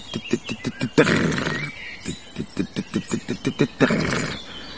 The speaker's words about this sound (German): Und spannend finde ich bei den Grauammern, dass die auch teilweise vom Boden aus oder sagen wir mal so, nah am Boden auf einem Halm sitzend singen, dass man sie gar nicht sieht. Also du hörst oft nur aus der Fläche heraus dieses.